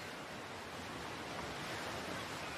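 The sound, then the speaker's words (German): A soft, steady wash of surf hisses continuously with no distinct breaks between waves, like calm turquoise sea water lapping a sandy shore and leaving small white bubbles behind, with no voices present. “Du schaust dich um, siehst das türkisfarbene Wasser, wie es sanft das Ufer umspült und wie kleine weiße Blasen zurückbleiben, während es wieder in das Meer zurückfließt.”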